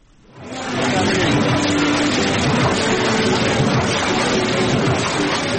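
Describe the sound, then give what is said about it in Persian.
A dust-covered machine for printing books and other printed materials, in a printing house in Kabul, Afghanistan, starts up and runs with a loud, steady mechanical roar and dense clatter, continuous after a brief quiet start. “ماشین‌های گردزده چاپ کتاب‌های گوناگون و سایر مواد چاپی شاید از ترس آسیب دیدن برای مدت کوتاه در ماه یک بار روشن شوند، اما چند ماه پیشتر این ماشین‌ها برای استراحت و متوقف شدن زمان محدودی داشتند.”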